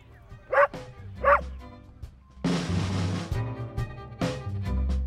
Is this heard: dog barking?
yes